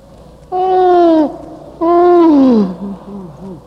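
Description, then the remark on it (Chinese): Two drawn-out, voiced yawns made on purpose and repeated as a breathing exercise, each sliding downward in pitch; the second is longer and trails into a low groan, followed by a few softer, breathy murmurs. “反复做，反复又到处真正的哈欠来，反复做，反复又到处真正的哈欠的声音动作感觉来。”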